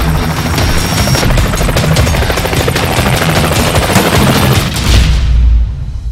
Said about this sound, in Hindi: वो हेलीकॉप्टर के देख रहल बाड़ा, ओकरा के सिर्फ देख सकल जाला, बाकी पकड़ल ना जा सकेला।